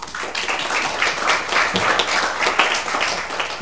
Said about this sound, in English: Also, thanks for the preliminary round of applause.